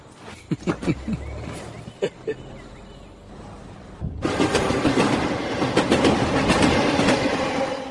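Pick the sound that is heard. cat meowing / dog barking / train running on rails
train running on rails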